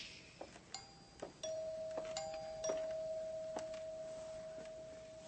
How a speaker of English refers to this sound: Then the doorbell rang. It's them.